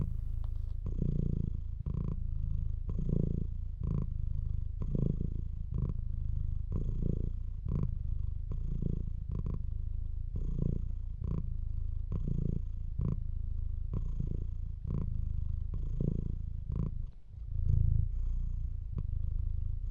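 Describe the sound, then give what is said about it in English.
A cat purrs steadily, a continuous low rumble that swells and eases in a regular rhythm with each breath, with no talking over it. “you remind me of my two orange kitty cats named Mittens and Toby.”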